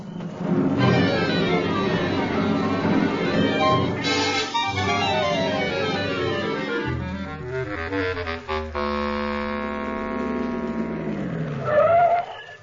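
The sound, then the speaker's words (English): A car engine revs and roars continuously, with rising and falling pitch sweeps and squealing tires, sounding like fast, frantic driving, with no talking. “Won't you take us with you in your car? Okay, hop in.”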